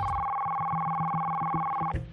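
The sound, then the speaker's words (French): A telephone rings with a steady, fairly loud electronic tone that holds for nearly two seconds before cutting off abruptly, over a faint low pulsing beat underneath. “On va écouter les appels téléphoniques parce que certains ont réagi au téléphone.”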